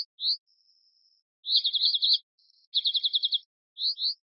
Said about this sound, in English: A computer-generated alarm call meant to mimic a bird's. As expected, the unfamiliar sound had no effect on the fairy wrens. But then the researchers paired the synthetic call with a chorus of alarm calls the wrens would recognize.